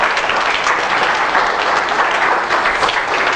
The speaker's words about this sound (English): Give Jesus a hand of applause.